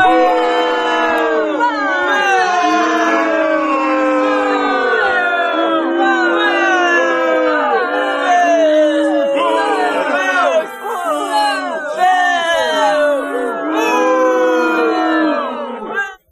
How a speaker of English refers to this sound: Tommaso Ciampa stood in the ring, got booed, got pissed, booed. We want Johnny. Booed some more. More boos. He started flipping out. He ripped up a sign.